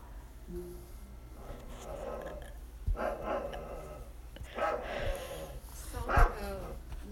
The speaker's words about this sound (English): Will you stop growling at me?